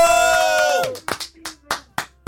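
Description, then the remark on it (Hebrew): A held musical tone fades out, then the audience claps along in a steady rhythm for a contestant who has won a vacation, about six sharp claps spaced evenly apart. “רגע, כפיים!”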